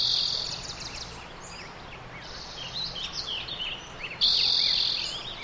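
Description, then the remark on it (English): A spring dawn chorus at sunrise, recorded in 2004: many birds chirping and calling together over a steady outdoor hiss, with a bright sustained trill rising near the end, continuous. “And this recording, it's a spring soundscape, a dawn chorus at sunrise when the birds are their most active in the spring.”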